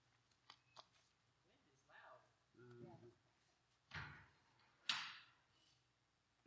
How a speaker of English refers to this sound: Yeah, those doors, you have to throw that bolt or those doors just keep coming open.